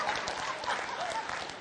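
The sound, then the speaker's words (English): An audience applauds for a parent with dense, steady clapping that sounds like a continuous wash of noise, with faint crowd voices mixed in. The clapping eases off slightly at the very end. “And the applause is for the parent, right?”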